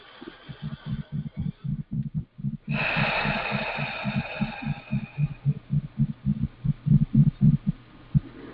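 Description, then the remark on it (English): A person takes a long, airy deep breath in and out, loudest at its start and trailing off over a couple of seconds, over a steady, deep thumping pulse that beats on throughout like a heartbeat. “Take a deep breath in and out, and notice which part of your nose or mouth you're breathing with.”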